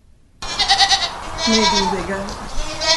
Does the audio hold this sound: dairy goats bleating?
yes